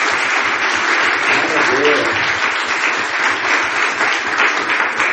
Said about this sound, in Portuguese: Mas quem merece uma salva de palmas, a gente vai dar, é as nossas mulheres cozinheiras, homens e mulheres cozinheiras, que fazem uma comida da melhor qualidade. Vamos dar salva de palmas para a vida dela, em nome de Jesus?